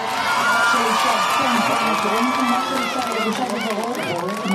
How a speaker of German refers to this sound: Am Nachmittag übergibt die Terrororganisation Hamas die drei jungen Frauen an das Rote Kreuz. In Israel bricht Jubel aus.